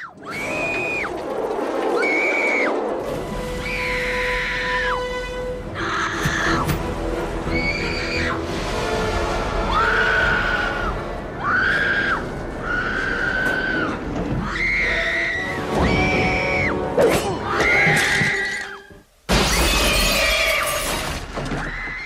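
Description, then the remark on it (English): A rapid-fire compilation of shrill, high-pitched screams by Jennifer Love Hewitt from the film I Know What You Did Last Summer, one after another with brief gaps, some sustained and wavering, others short and sharp, each loud and piercing over a busy background. “Now, I will say, you can stop me when you know who this is, because this third clip is a compilation of multiple screams.”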